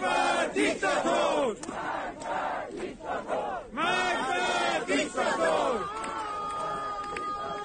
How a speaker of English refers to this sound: Mourners chanted "Death to the Dictator," a reference to Iran's supreme leader Ayatollah Ali Khamenei.